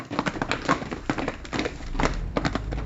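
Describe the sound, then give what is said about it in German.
Several pairs of children's feet walk to school on foot in the morning along a hard surface, their steps tapping in a loose, overlapping rhythm at moderate volume over a low background rumble. “Zu Fuß”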